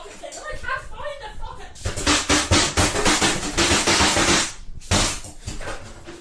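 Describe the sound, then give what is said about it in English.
A fist pounds a sink in anger over soup in a rapid, loud series of hard, clattering bangs, pausing briefly before another burst. A raised voice is audible just before the blows begin. “Punching a sink because of your fucking soup.”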